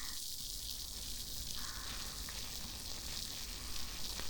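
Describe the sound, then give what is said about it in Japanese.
Continuous fizzing and crackling of carbonated mint shampoo foam, with a cooling effect, being worked up between the palms, a steady bright hiss with fine popping, no voices. “これをまずは手のひらでよーく泡立てていきます。”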